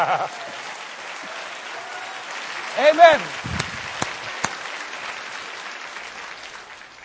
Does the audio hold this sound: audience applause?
yes